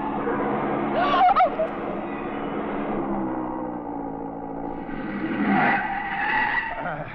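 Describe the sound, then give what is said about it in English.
A speeding Porsche's engine roars while its tires screech in a loud skid as it goes off the road, with sharp squealing bursts near the start and again toward the end, sustained throughout. “That Porsche ahead, he sees my lights. No, mon pauvre, no, not so fast! He does not know this road.”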